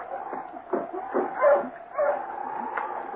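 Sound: sled dogs barking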